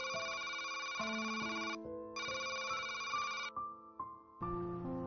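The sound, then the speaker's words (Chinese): A telephone rings loudly, its electronic ringtone repeating in bright, melodic bursts separated by brief pauses, with no voices present. “税务局刚打电话来说，现在可以退了。”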